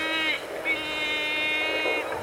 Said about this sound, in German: Ist das Wind? Lassen Sie mich das Analyse-Tool aktivieren. In Kenntnisnahme aller bisherigen Faktoren liegt die Vermutung nahe, dass der Professor buchstäblich durch den Wind ist, also sich dort aufhält, wo ein sehr starker Wind weht.